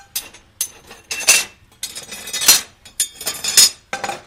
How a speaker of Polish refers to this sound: Tylko wpierw postawimy patelnię na ogień.